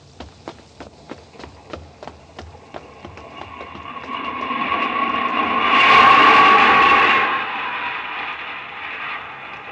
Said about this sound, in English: Here's the tube. Let's duck down into the station.